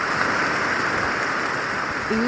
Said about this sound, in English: Ooh. So this is very mood setting. This is the rain at night in an old growth forest in Borneo. Yeah, it's like there.